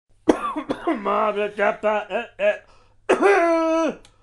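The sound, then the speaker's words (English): A voice imitates how Barney coughs with a rapid series of loud, voiced hacking bursts, then ends with a longer, drawn-out vocal cry. “So, yeah, that's how Barney coughs, if you are wondering.”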